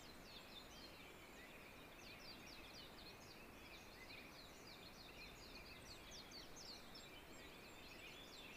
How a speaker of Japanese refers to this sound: 鳥が、まあ、また今も鳴いてますけど、ポッポッポッポッなので、まあ、主要なのはもうかなり聞こえるようになります。